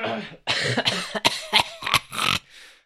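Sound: coughing fit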